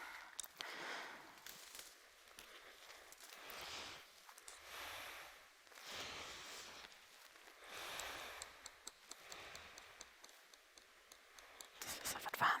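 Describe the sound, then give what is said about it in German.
Water is stirred in a container so that colour from a piece of paper turns it green within seconds, a soft swishing that rises and falls in slow repeated waves, with faint clicks and scrapes against the sides and no talking. “Und durch ein bisschen Unrühren wird das in wenigen Sekunden grün.”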